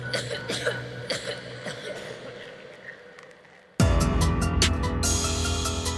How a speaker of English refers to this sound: You also, if you have been around Slender Man too much, you get slender sickness and you start coughing.